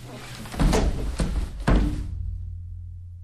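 A man faints and collapses onto the floor of a path beside a wall: a few heavy, dull thuds in quick succession, fairly loud, then the sound fades into a low hum.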